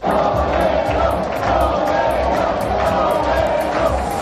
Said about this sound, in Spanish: Así aclamaban los aficionados al torero madrileño a su salida por la puerta grande de las ventas.